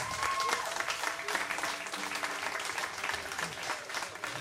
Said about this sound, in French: Applaudissements.